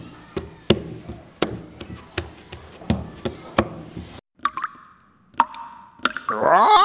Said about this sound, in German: Was spielst du denn da für einen Rhythmus? Kannst du das auch auf dem Tisch trommeln mit den Fingern?